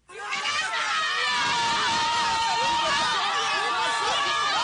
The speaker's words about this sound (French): le retour de M. Gbagbo et ses conséquences politiques, alors que les partisans de l'ex-président éclatent de joie.